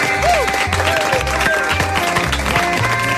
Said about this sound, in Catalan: Un aplaudiment.